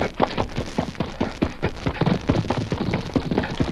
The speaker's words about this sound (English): they heard pounding hoofbeats approaching from the direction of Benton on the trail above them